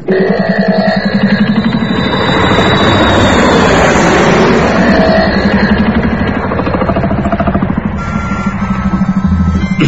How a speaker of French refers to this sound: Fais chauffer l'avion, s'il te plaît